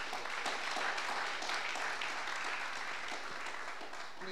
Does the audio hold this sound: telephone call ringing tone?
no